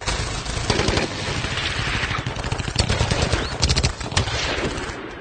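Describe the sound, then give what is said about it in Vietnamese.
A sustained burst of loud, rapid gunfire from the riverbank, shots cracking in quick succession like a machine gun, with dense overlapping bangs and a few sharper reports standing out near the end. “Một loạt tiếng súng khá lớn liên tiếp nổ vang rền ở phía bờ sông, cắt ngang câu nói của Nhâm.”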